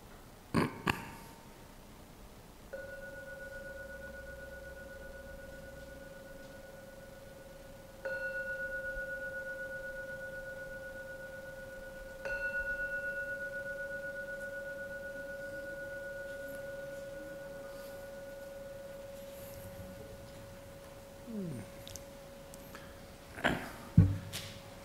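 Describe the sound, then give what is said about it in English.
A gong is struck three times at unhurried intervals to end a meditation, each stroke adding to a steady, humming ring that lingers and overlaps before slowly fading out. “And I'll now ring the gong 3 times to end this meditation.”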